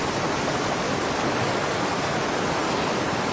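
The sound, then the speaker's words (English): A steady, loud rush of water pours into a chamber without pause, filling it, a dense continuous roar, with no voices over it. “The chamber is filling with water.”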